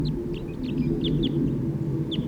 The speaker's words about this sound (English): Another male is chittering on his way down and he has caught an orange one, bright orange.